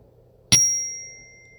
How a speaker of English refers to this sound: I'll start with ringing a bell and end with ringing a bell, so you will know the beginning and the end.